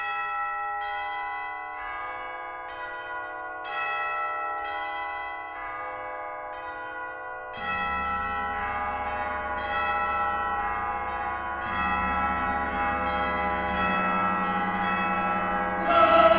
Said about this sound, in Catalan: Va haver-hi l'oportunitat de comprar un joc de campanes, de 20 campanes tubulars, i no ho vaig pensar dues vegades.